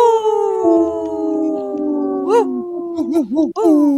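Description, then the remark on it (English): Several wolves howl together in long, overlapping drawn-out notes that slowly slide downward, then break into wavering, rising-and-falling yelps near the end; loud, with no talking. “This portion of the show is brought to you by Howling for Wolves, protecting wolves for future generations. Howl!”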